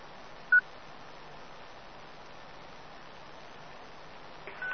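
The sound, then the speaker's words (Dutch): A short, sharp burst-on radio beep cuts through steady static hiss, followed near the end by a second brief burst-off tone as the hiss grows slightly louder. “Ja, burst on of burst off. Dat is een piepje, die komt te vuur aan.”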